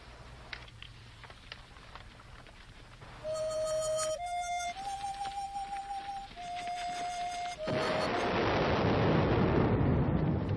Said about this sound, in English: The soldiers look up. Did you hear that? Thunder? I don't think so. It sounded more like an explosion.